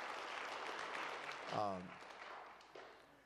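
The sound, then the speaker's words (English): A church audience claps steadily in a dense wash of applause for a young woman on the church staff, with a brief raised voice or cheer rising above it midway before the clapping continues. “Give that young lady a hand clap there.”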